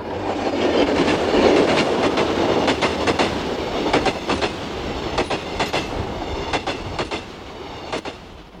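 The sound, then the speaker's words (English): A train rolls steadily along the rails at night, its rumble filling the space while sharp, irregular clicks of the wheels over track joints punctuate the noise. No one speaks. “You're on the train. It's night.”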